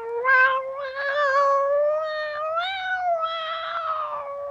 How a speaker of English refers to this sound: At that, Queenie the cat would meow.